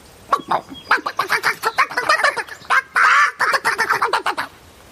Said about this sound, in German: Nur hinten auf dem Hof gab es noch etwas Streit, denn das maskierte Huhn hatte doch einfach dem hungrigen Huhn das schöne Butterbrot weggemopst. Gerade als das hungrige Huhn hineinbeißen wollte.